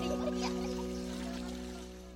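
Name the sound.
water pouring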